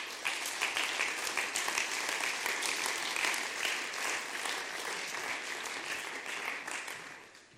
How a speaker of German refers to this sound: komm mal hoch und gebt ihm einen fetten Applaus.